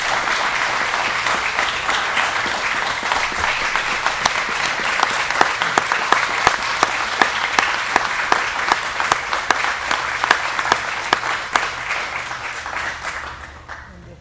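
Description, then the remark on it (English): A sustained round of applause from a crowd celebrating the life and service of Frank Winsick, dense, steady clapping for about thirteen seconds with some sharper individual claps standing out, then fading away at the end. “Let's have a round of applause celebrating the life and service of Frank Winsick.”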